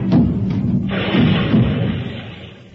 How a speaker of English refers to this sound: And once I fell downstairs with a barrel of beer.